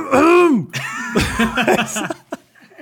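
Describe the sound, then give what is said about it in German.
A loud, rough throat clearing into a microphone, done to get rid of a frog in the throat: a strained voiced rasp followed by several harsh, choppy bursts that trail off into quieter scraping sounds. “Ich habe so laut mich geräuspert, dass ich es wirklich halt wahrgenommen habe über die Kopfhörer drüber, dass ich einfach gemerkt habe, oh Gott, das war viel zu laut.”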